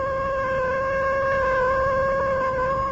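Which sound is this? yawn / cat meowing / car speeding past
cat meowing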